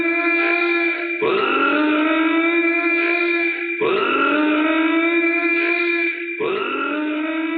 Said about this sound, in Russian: Я сейчас от уха трубку отниму, и вы услышите этот зуммер периодически.